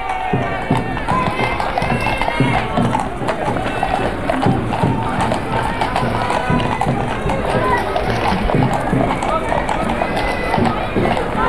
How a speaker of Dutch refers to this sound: De paarden beginnen te chargeren. En dat alleen omdat er een aantal mensen had beginnen te lopen. Nou, paarden moeten zo nodig achter mensen aanjagen.